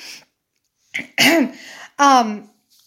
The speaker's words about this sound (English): Oh, excuse me. I got a sneeze coming through.